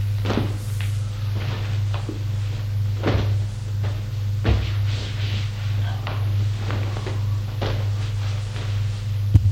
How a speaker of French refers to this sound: Se met au lit.